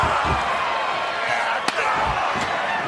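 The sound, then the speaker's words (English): At a wrestling event, a loud crowd roars steadily as a single sharp steel chair slam cracks through, followed a moment later by a fainter second hit, as Ambrose and Rollins wield steel chairs. “And Ambrose and Rollins now with steel chairs.”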